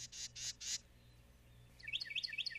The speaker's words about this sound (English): Sound familiar? That's the one. It's a Carolina wren. Now, do you believe that maybe they were sweetening the audio again, only this time with a bird that was appropriate to the venue?